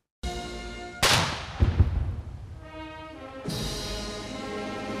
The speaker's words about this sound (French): Le chef de l'exécutif américain a été salué par 21 coups de canon à son arrivée au palais présidentiel de Malacanang à Manille.